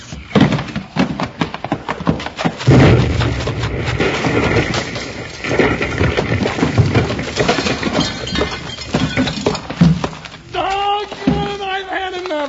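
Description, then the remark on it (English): A keg of blasting powder explodes in a loud, sustained roar of crashing and rumbling, with clattering debris and breaking glass scattered through it, then a raised voice cries out at the end. “If you missed him with that rifle, I let them kill themselves with that keg of blasting powder.”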